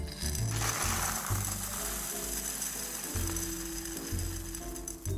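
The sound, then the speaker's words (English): A steady, continuous granular hiss and rattle of sugar, used as pie weights, being poured into a pie crust, running without a break for about five seconds over a low tonal background hum. “But I'm gonna just go ahead and pour it in.”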